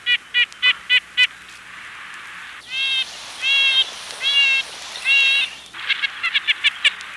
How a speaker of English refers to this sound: Red-breasted nuthatches sound like they're blowing a tiny tin horn.